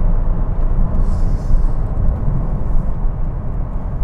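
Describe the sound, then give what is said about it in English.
A car on Pirelli Sottozero winter tires roars steadily and loudly at 50 miles an hour through a long sweeping curve, a dense low engine and road rumble with a hint of rising strain and a little front wheel slip. “Here I am, 50 miles an hour into this nice sweeping, swooping curve.”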